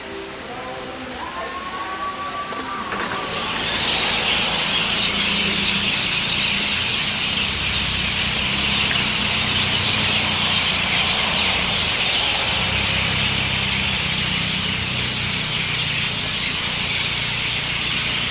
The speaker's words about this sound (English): I'm assuming you can hear the traffic, but the noise is birds flocking in the trees just outside the hotel. I've heard this before in Australia. I'm not entirely sure, in fact I'm not at all sure what kind of birds they are.